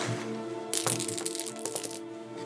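Dice clatter across a hard tabletop in a quick burst of rattling clicks lasting just over a second, fairly loud, with soft steady music playing underneath.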